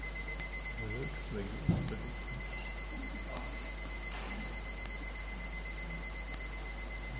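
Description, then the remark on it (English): A clock alarm rings steadily and faintly throughout as a thin, continuous electronic tone, while people talk quietly and a brief thump stands out early on. “It's this clock?”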